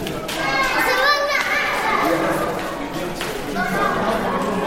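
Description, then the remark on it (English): Many children's voices overlap in a constant, lively clamor of chatter, shouts and high-pitched calls, with a reverberant, echoing quality and steady loudness throughout, as children play in a school corridor; the school is being used as a shelter for flood survivors. “It's quite noisy and echoey here in the school corridor where the children are playing.”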